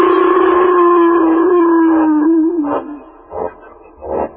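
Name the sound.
wild dog howling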